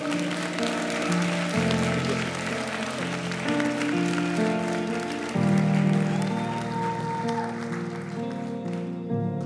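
An audience claps steadily throughout, a dense wash of applause blended with sustained music chords that shift every few seconds, no voices over it.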